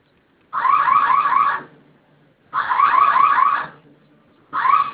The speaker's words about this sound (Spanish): En su teclado tiene usted una letra que dice F, que es la letra F. Sí. Vamos a presionar esta letra por 5 segundos. Va a sonar su alarma y vamos a ingresar su clave que registró.